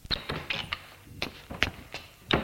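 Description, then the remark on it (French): An apartment door opening: a series of sharp clicks and soft thumps from the handle and latch, spaced irregularly over a couple of seconds, with no voices. “Il ouvre la porte de l'appartement.”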